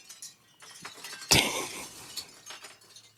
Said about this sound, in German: Wir lauschen dem Windspiel, schau mal.